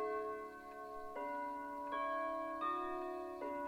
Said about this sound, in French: C'est de nouveau le calme dans le manoir. L'horloge du rez-de-chaussée carillonne et les tintements résonnent faiblement à travers les murs.